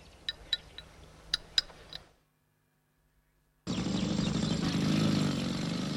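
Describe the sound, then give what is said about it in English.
A few sharp metallic clinks, a brief hush, then a motorbike engine bursts in loud, roaring steadily and swelling slightly as the rider approaches a grand country house. No voices. “approaches a grand country house on his motorbike.”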